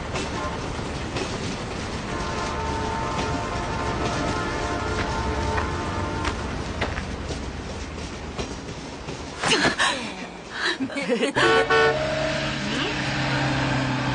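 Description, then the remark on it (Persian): A very big car with large wheels arrives, its engine rumbling steadily, then gives sustained, bright horn blasts that cut through the engine noise, with a brief disturbance before the honking resumes toward the end. “آقا اجازه، عجب ماشینیه.”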